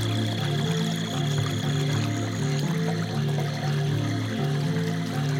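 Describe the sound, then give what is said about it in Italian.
Gentle water of a warm spring lapping softly and continuously where it flows up from the ground into a small lake, with a steady low pulsing drone beneath it and no voices. “Il rumore lieve dell'acqua risuona delicato.”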